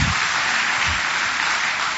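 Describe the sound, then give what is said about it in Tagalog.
An audience claps loudly, a dense, steady wash of many hands applauding at once that holds at full strength for about two seconds, with no voices rising above it. “Pumalakpak na malakas.”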